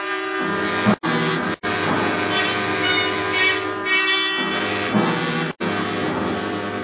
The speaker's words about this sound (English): It's a real nice train, streamliner and all. They have a compartment for you.